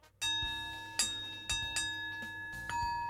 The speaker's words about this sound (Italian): Che meraviglia, le campane tibetane. È, diciamo, uno dei mezzi più utilizzati per far risuonare benissimo, appunto noi perché stessi. Il suono comunque viene portato fino al profondo della nostra anima.